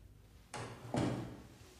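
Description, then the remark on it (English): A lamp being switched off: two quick mechanical clacks about half a second apart, the second one fuller and lower, each fading briefly into a quiet background. “She turns away and switches off a lamp.”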